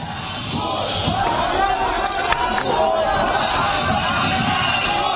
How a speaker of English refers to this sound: though the crowd in Asyut, once a bastion of Islamic extremism, hail him as a natural leader.